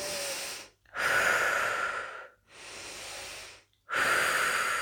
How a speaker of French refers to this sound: Nous nous préparons maintenant pour la désophronisation. Nous prenons quelques grandes inspirations.